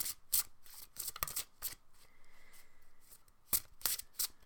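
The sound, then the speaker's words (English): A deck of cards being shuffled: quick, crisp riffles and snaps in irregular bursts, with a brief softer sliding stretch in the middle. No one speaks. “So I'm shuffling and I'm concentrating on the people that are listening to this.”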